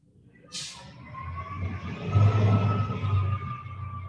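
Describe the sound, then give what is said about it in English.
A heavy lorry rumbles past, its deep engine drone swelling and fading, with a brief hiss of air brakes near the start. “I'm just waiting for the lorry to go by.”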